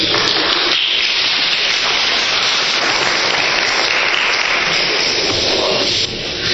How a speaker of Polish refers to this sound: Oklaski są, jak rozumiem, na rzecz demontażu socjalizmu.